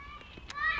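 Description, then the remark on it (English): A goat bleats once, a short, nasal, quavering cry that swells louder toward the end, with faint outdoor background. “Shut up, goat.”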